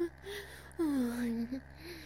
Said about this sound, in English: Oh, my moans are a little too distracting, huh?